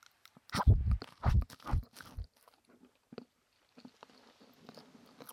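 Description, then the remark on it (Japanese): Crunchy chewing: four loud, crisp crunches in a quick, uneven rhythm, followed by softer, faint crackling mouth sounds as the chewing continues. No voices. “食べる音はあんまいい音しないかも。”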